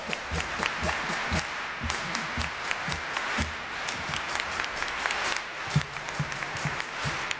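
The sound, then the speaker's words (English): A large audience at the Albert Hall, in the gallery and circle, claps together in a steady, even beat as the hi-hat cymbal of a drum kit, the sharp bright claps ticking along like a hi-hat keeping time, with a dense wash of crowd noise between beats. “How about turning the top of the Albert Hall into our hi-hat cymbal?”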